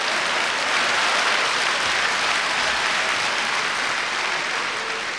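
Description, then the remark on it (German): Dense, sustained applause and cheering from a large crowd in the platform divers' camp at a swimming stadium, a broad hiss of clapping hands, steady and loud throughout without any speech. “Jubel im Lager der Turmspringer, meine Damen und Herren.”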